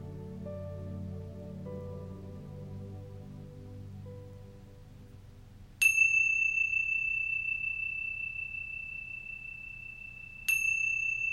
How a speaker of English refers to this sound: And when you hear the sounds of the chime, come gently back into the room.